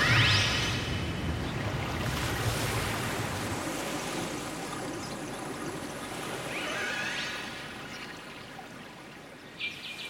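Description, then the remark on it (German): Steady flowing and trickling water from a recording of water sounds made for public toilets runs continuously at moderate loudness, with a couple of brief high squealing calls rising over it near the start and middle. “Die Klänge haben alle mit Wasser zu tun.”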